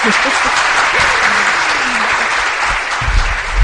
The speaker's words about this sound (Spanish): Pues esto creo que merece un aplauso, ¿no? Sí.